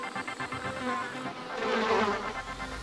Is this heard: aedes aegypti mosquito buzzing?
yes